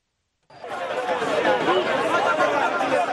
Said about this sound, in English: You're listening to a crowd of Haitians waiting outside Haiti's migration agency, hoping to apply for a humanitarian program that allows up to 30,000 immigrants from Cuba, Haiti, Nicaragua, and Venezuela to enter the United States.